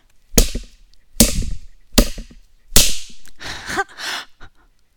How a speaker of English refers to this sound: Now you turn up the pain. You spank me harder now. Pain that I enjoy, I demand.